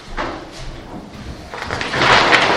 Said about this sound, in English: Someone's just walked through the doors,